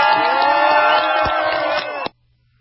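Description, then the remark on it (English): A large crowd cheers and applauds loudly, a dense, steady roar of voices and clapping that holds for about two seconds before cutting off abruptly. “Applause for killing.”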